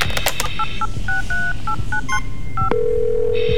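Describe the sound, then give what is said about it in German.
A rapid series of touch-tone beeps as a phone number is keyed in to order pizza, about a dozen short dual-tone presses in uneven rhythm, followed by a steady tone from the line. “Ah, na gut, geben Sie mir das Telefon.”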